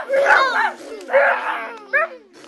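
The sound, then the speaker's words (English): Voices imitate cars vrooming: three drawn-out vocal engine sounds that swoop up and down in pitch, fairly loud, separated by brief pauses. “The cars vroomed.”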